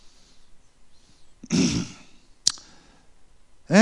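A single sharp click of a computer mouse button, preceded by a breathy rush of noise and followed by a brief voiced sound.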